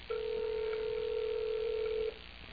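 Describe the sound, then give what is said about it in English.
A call to a man's own phone rings once with a steady electronic tone lasting about two seconds before cutting off, thin and band-limited as if heard through the handset, with faint line hiss and no talking. “This is his own phone. Let me see what we got here.”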